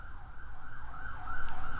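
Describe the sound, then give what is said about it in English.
A police siren wails outside, its pitch sweeping up and down steadily over a low traffic rumble, growing slightly louder as it passes by. “In a way, I guess what I'm getting at is just a question about where resistance to growing executive power should come from as the siren goes past.”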